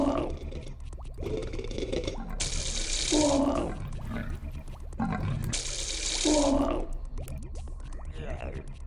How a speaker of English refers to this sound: This is vomiting.